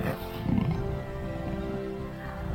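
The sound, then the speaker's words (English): A leopard's low, rumbling growl in an empty lodge during lockdown carries steadily for a couple of seconds, fairly loud, with a deep throaty rasp and no voices over it. “A cameraman films a leopard in an empty lodge.”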